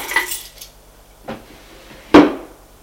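Keys dropped into a drawer in an office: a bright metallic jingle, then a softer knock, and finally a louder clattering thud. Three separate impacts, with no voices.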